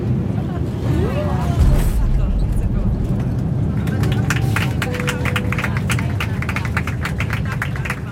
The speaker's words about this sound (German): Das war jetzt, glaube ich, weniger Applaus für den Piloten als mehr Applaus für die Menschen, die hier im Flieger sitzen.